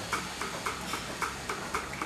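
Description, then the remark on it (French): Steady, rhythmic mechanical ticking from a milking machine pulsator during milking of a dairy cow herd, sharp clicks repeating about three times a second, alternating from one side to the other, over a continuous background hum, moderately loud, with no voices. “Tu sens que ça bouge, ça fait un coup d'un côté, un coup de l'autre. Toc, toc, toc.”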